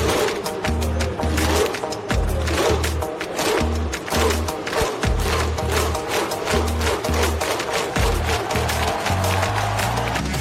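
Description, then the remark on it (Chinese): Iceland fans perform the Viking thunderclap in a stadium in Nice after Iceland's Euro 2016 win over England: more than 8,700 fans raise their arms and clap together in loud, sharp bursts, with deep rhythmic group shouts booming beneath the claps throughout. “在那场比赛结束之后啊，冰岛全队走向场边，带领全场的8700多名球迷一同高举双臂拍手呐喊，巨大的嗷呜的声音呢，是响彻了尼斯的夜空。”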